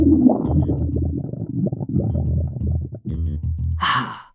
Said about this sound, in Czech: Nebylo to vůbec snadné, protože jí v břiše kručelo, jako by týden nejedla.